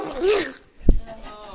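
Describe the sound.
Someone fakes a sneeze without covering the mouth: a rising, breathy intake builds for a moment, then breaks into one sharp, explosive burst that quickly fades to quiet.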